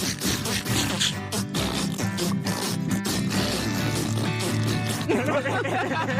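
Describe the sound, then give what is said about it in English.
A run of loud, raspy, sputtering fart noises over about six seconds, buzzing and rippling with low tones, with brief crackly bursts and what may be chuckling mixed in. “Let's hear those farts.”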